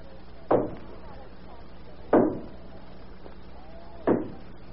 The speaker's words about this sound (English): Who do you suppose is banging on the door at this hour of the morning?